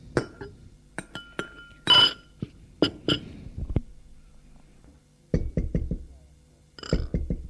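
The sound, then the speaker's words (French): Light clinks of cups and glassware give way to knocking on a door: a quick run of four firm raps, a short pause, then another rapid burst of knocks. “On a frappé à la porte.”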